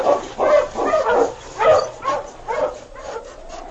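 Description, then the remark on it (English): A husky dog barks in an excited run of about six yelping, slightly whiny barks, mid-pitched and fairly loud, with the last one trailing into a rising whine. No voices are heard. “Hush, you husky, hush!”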